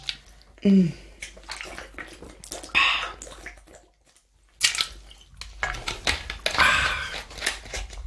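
Water is poured into a glass for drinking in a few splashy bursts, with brief clinks and handling noises between pours and a short quiet gap midway.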